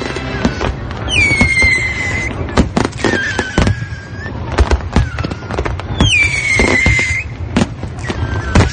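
Fireworks pop and crackle in a dense, steady barrage of loud bangs, while two shrill whistling rockets streak overhead and fade, one near the start and another later on, closing The Best Show.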